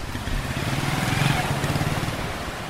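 A powerful motorboat engine in the fishing harbour of Limbe, Cameroon, drones steadily, its low pulsing throb continuous throughout with a broad wash of noise over it and no voices.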